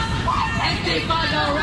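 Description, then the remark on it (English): A crowd of protesters in Washington, D.C., at Foggy Bottom, chanting as handcuffed protesters are put into D.C. police vans, many voices blending into a loud, continuous roar of shouting with no pauses and no single voice standing out. “You can hear the crowd chanting as they are put in D.C. police vans.”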